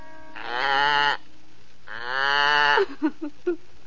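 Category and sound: animal, goat bleating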